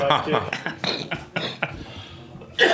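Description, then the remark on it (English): Several harsh coughs come in quick, irregular bursts over a couple of seconds, followed by a short pause and one more loud cough at the end. “Everybody's coughing, man.”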